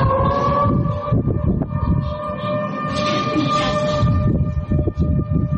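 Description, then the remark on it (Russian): A loud, steady siren tone drones without pause over a rough, rumbling background noise, an emergency warning siren sounding in Orenburg on a Friday afternoon during urgent flood evacuation, as the Ural river there rose above 11 metres. “В пятницу после обеда в Оренбурге уже звучали сирены.”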